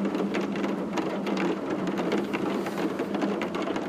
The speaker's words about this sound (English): Somewhere in Moscow this year, a person stood in silence and held their phone up and just listened to rain.